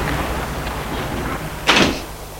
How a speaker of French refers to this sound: Avec un pinceau au laser, c'est une tige qui entre dans la serrure et qui prend la forme de la clé voulue d'après les formes intérieures de la serrure. La porte ouvre. L'homme entre tout doucement.